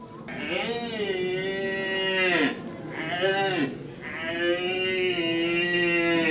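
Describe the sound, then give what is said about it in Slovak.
A contestant at a deer-call imitation competition imitates a young red deer stag's rutting call as it seeks hinds: three long, bellowing moans, the first and last sustained, the middle one shorter, loud with no other sounds. “V ďalšej disciplíne imitovali súťažiaci hlas mladého alebo starého jelenia, ktorý hľadá jelenice.”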